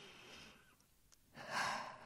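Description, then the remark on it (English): Slow, deep breathing: a long airy breath, a brief pause, then a fuller, louder exhale. No talking. “Just breathe. Are you breathing?”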